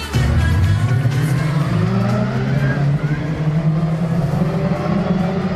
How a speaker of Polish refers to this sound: na torze Poznań ścigały się samochody w ramach wyścigowych samochodowych mistrzostw Polski